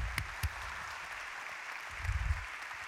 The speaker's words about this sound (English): Let's give Charlie a round of applause. So glad to have him up here today.